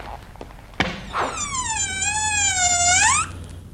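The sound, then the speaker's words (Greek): A sharp latch click, then a long, drawn-out, high-pitched creak of a door swinging open, wavering slightly in pitch for about two seconds before stopping abruptly, fairly loud. “Άνοιξε τη.”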